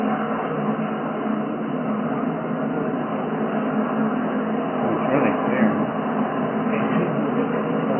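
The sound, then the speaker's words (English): A steady, loud rumble of a subway train riding along in Paris, France, continuous throughout with faint murmuring and a couple of brief higher squeals or clanks midway. “This is a subway train in Paris, France.”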